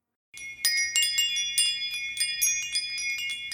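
Small, silvery bells tinkle in a steady, bright jingle, with many quick overlapping strikes continuing without pause. No voices are heard.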